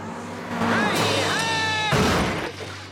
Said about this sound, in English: Lance Murdoch leaps over a line of burning buses on his motorcycle, crashing into a wall on the other side.